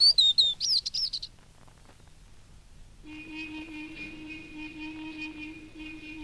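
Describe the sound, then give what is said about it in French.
Small birds chirp and trill brightly in a quick burst for about a second, then fall silent; later a steady, sustained tonal hum fills the background with no talking. “Chantez, petits oiseaux, chantez.”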